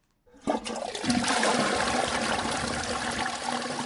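An enclosed flush toilet flushes with a sudden rush of water that quickly swells into a loud, steady gushing roar, continuing without pause. No voices are present.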